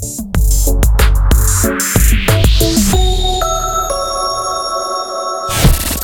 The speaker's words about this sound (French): La cloche a sonné. Oh super! C'est l'heure de la récréa